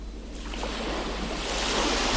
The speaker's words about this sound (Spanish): me voy a dar una vuelta al mar y te sientas en una roca a ver el mar. Es hipnótico como el fuego, pero además el mar tiene ruido y tiene diferentes colores y te atrapa.